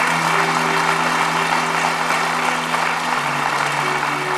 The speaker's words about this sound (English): Come on, one more time, if you don't mind, give him a great clap of praise today. He's worthy.